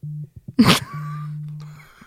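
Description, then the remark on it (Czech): A voice imitates a phone vibrating in a bag: a short low buzz, a sharp breathy burst, then a long steady low-pitched hum that fades out. No one speaks. “najednou moje taška začala vibrovat”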